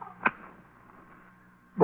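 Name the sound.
match being struck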